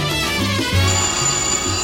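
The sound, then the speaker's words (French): A telephone rings with a loud, melodic electronic tone, stepping through a short sequence of notes over a steady bright hum, with no one talking. “Le téléphone.”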